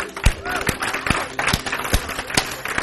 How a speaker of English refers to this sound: In faith. Let's applaud the Lord. Praise you, Lord.